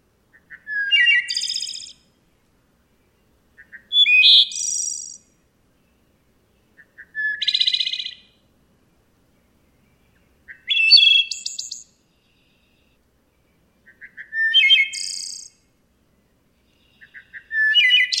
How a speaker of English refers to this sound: Here's the West Virginia wood thrush. Thoreau called the wood thrush the Shakespeare among birds.